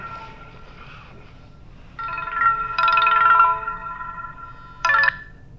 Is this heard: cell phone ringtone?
yes